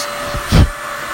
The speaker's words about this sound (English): Excuse my vacuum.